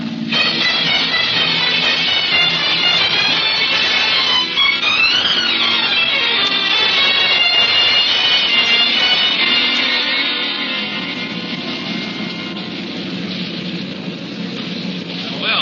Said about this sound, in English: he's having engine trouble. Yeah? Hey, he's losing altitude fast.